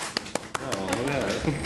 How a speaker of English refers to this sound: Left foot, left stomp. Left foot, right stomp. Now everybody clap.